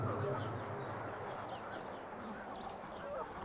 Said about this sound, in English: The sounds of clucking and pecking start to subside as everyone realizes that you're here to rest. And you know what? The chickens are tired too.